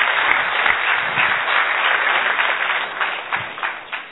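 An audience at a Brahma Kumaris event applauds a woman introduced to lead a candle lighting ceremony, many hands clapping in a dense, crackling wash that holds its level for about four seconds before starting to thin out toward the end.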